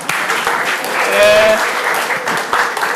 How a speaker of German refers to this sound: Also, oh, 10 Applaus bitte.